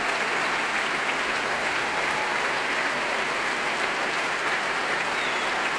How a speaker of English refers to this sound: Large applause there for the timpanist, the percussion section, all of the orchestra now on their feet.